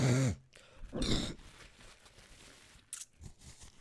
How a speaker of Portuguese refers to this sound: Portanto, pá, estou cheio de expectoração, preciso de me assoar e vocês vão ouvir. Esperem aí.